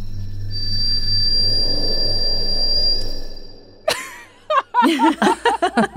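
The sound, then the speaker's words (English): A mouse howls into the sky to claim its territory: one thin, high-pitched whistling tone held steadily for about three and a half seconds over a low hum, then a sharp click and a few bursts of people chuckling. “That was his tiny scream. Yeah, they howl.”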